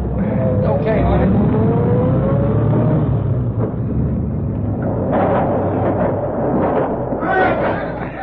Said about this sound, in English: Now, here they come. I'll open the door for you. Drive right in, then I'll follow and close the door.